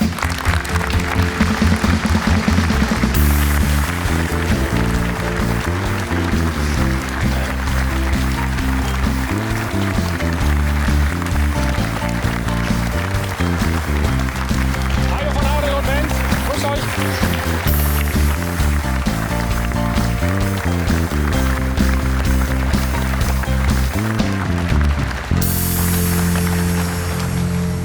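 A studio audience on the TV show Doppelpass applauds loudly and steadily for the whole stretch, welcoming Mainz 05 coach Sandro Schwarz on his first appearance, the dense clapping layered over upbeat music with a bouncing bass line; no one speaks.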